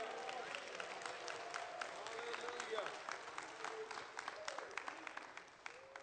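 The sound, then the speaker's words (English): An audience claps steadily for the Lord for several seconds, a dense patter of many hands with scattered louder claps and faint voices mixed in, tapering slightly at the end. “Give the Lord a big clap, please.”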